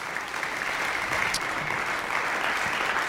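A crowd applauding steadily at a live concert, thanking the band's guitarist and other musicians: a dense wash of many hands clapping at an even level for a few seconds, with no voices rising above it.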